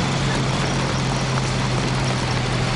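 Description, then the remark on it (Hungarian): An old Csepel truck engine idles and rumbles steadily, a loud, continuous drone with a deep hum and broad rattling noise that holds even throughout, with no voices. The truck departs from beside Korvin köz, carrying passengers at an exhibition. “Hajóról teherautóra. A Csepel a Korvin köz mellől indul, és rajta egy forradalmás statiszta kíséri az utasokat.”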